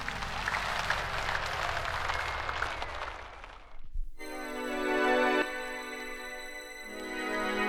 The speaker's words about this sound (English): Let's give ourselves a great round of applause.